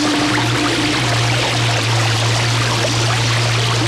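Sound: river water flowing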